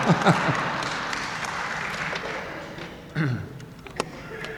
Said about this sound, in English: Thank you. Yes. I imagine the applause is because I'm putting on my accordion now.